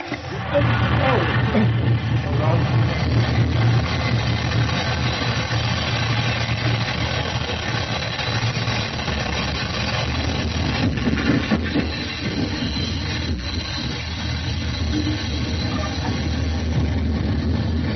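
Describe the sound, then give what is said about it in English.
A train rumbles loudly and steadily as it slows to a halt, a low droning hum fading out partway through while the heavy mechanical noise carries on, with muffled voices underneath. “No playing hero when the train stops.”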